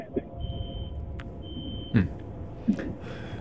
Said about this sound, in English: He sounded like he was in a spaceship. No, or he's maybe back in like a truck up or something. So you heard the beeping, right? That sounded like a spaceship.